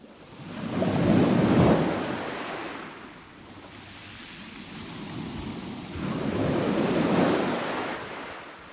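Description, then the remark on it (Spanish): Ocean waves surge and recede along the Atlantic coast by the dunes, two broad swells rising and fading in a slow rhythm over a constant hiss of surf, with some wind rumble and no voices. “Ese hermoso lugar de la costa atlántica queda allá lejos, dunas y océano.”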